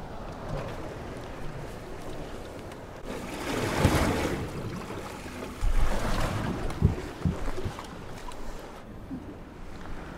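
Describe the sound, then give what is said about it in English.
Water laps softly against a small boat's hull as it drifts on a big lake, waiting for dark, with steady wind noise and a few louder splashes and knocks; no engine is running and no one speaks. “So you're just drifting now? Yeah, we're just drifting.”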